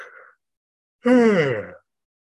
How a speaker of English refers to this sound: That yawn is already starting to release some energy.